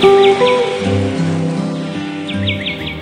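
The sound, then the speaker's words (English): Quick, high bird chirps in short bursts at the start and again near the end, layered over sustained, mellow instrumental music with low droning tones. “Or is it instrumental with all those birds and things?”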